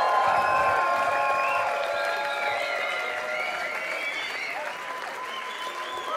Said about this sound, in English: Guest vocals there, give him a big round of applause.